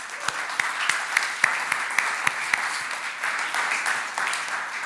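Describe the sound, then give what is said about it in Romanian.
A church audience breaks into steady applause for the technical team, a dense wash of clapping with sharper individual claps popping out at a quick, fairly regular pace throughout, moderately loud with no talking over it. “Haideți să-i aplaudăm.”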